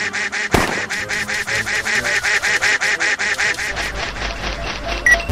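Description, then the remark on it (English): A duck in a video game quacks rapidly and continuously, a fast steady string of loud, nasal calls, with a brief thump early on and no talking. “Also, wieder ein ganz schönes Nord-Süd-Ost-West-Spiel und wir müssen also die Ente im Auge behalten und wir dürfen auch nicht vergessen, Bonus Items einzusammeln.”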